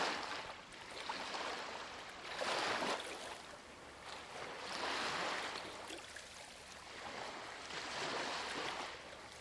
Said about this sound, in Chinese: 海风吹过，你是否可以捕捉到大海咸咸的味道？